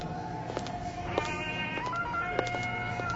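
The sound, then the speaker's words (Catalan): A mobile phone ringtone plays alone: sustained electronic tones that step between a few pitches in a simple melody, punctuated by sharp clicks, at a steady moderate loudness. “Ai, el mòbil, perdona,”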